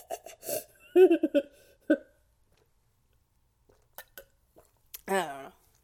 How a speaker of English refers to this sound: Excuse me. I promised I wasn't gonna burp in any more of these audios, but I clearly lied.